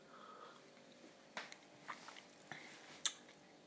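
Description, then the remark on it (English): Someone sips cooled Campbell and Syme Rocco Mountain Ethiopian natural processed coffee: a few short, soft slurping and mouth sounds spaced over a few seconds, ending with one sharper sip. No one speaks. “Right, I'm going to take another sip of the Campbell and Syme Rocco Mountain Ethiopian natural processed coffee.”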